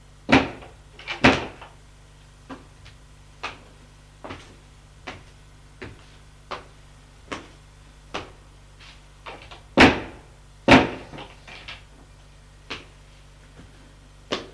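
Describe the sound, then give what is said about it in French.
Repeated rattling and knocking as someone tries to open doors along a cellar corridor, a series of sharp clunks at uneven intervals, a few louder jolts standing out among fainter taps, with no talking. “Gilbert essaye d'ouvrir des portes.”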